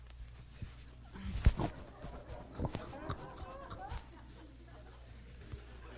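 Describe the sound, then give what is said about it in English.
A person imitates a dog lapping water to show how a dog does it, making a quick run of wet, clicking mouth sounds for a few seconds, then trailing off into quiet room noise. “lappeth of the water with his tongue as a dog lappeth”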